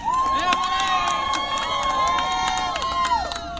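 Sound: crowd applause and cheering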